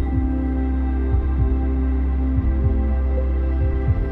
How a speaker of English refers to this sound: your heartbeat.